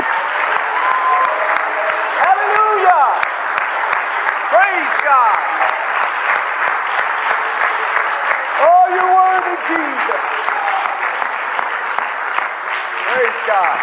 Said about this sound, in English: Praise God, everybody. Would you put your hands together and clap to Jesus right now? Come on, he's worthy.